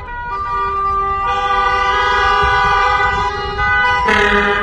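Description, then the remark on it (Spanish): A caravan of vehicles in a driving-school protest in Segovia, Spain, over a shortage of examiners at the Provincial Traffic Headquarters, blares car horns in a loud, sustained chorus of overlapping harmonic tones, with a fresh, higher horn blast cutting in near the end over a low traffic rumble. “Una caravana de vehículos ha escenificado hoy una protesta a la que se han unido las asociaciones profesionales de transportistas y de gestorías.”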